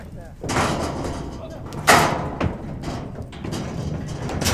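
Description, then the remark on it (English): A horse trailer door bangs once with a loud metallic clang, followed shortly by a softer thud, over a steady rumble of outdoor noise and shuffling, as horses are loaded into the trailer. “The only way out is an open trailer door.”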